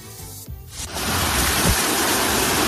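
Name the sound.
heavy rain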